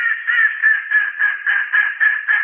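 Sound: mallard duck quacking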